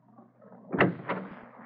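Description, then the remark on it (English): A door opens: a sharp clunk of the latch followed moments later by a second softer knock and a brief rattle as it swings, with no voices. “Don't shut the door. Leave it open.”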